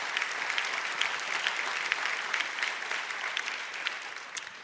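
A crowd claps steadily, a dense wash of many hands applauding at once, sustained and even for several seconds with no voices standing out, as the audience is asked to clap for the gift of eternal life.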